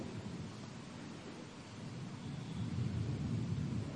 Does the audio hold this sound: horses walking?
no